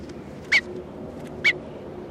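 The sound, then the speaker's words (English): Bird number 301, being handled, lets out two short, sharp, high-pitched calls about a second apart, each loud and abrupt against a low steady hiss. No one speaks. “Bird 301 being handled.”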